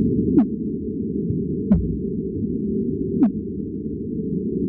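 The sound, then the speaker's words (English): Two fin whales swimming together call back and forth underwater: three short, downward-sweeping pulses spaced about a second and a half apart, each with a faint click, over a constant low hiss of ocean noise. “And this is a pattern that we think we can attribute to two fin whales that are swimming together, calling back and forth.”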